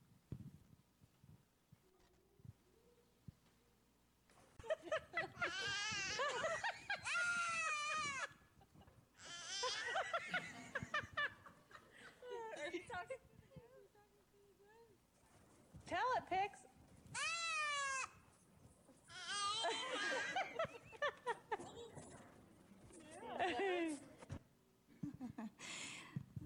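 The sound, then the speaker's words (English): A person imitates a goat's bleat, producing several loud, quavering 'baa' cries, each a few seconds long with short pauses between, after a quiet start. “It might be easier to imitate a goat because that's all there is to imitate.”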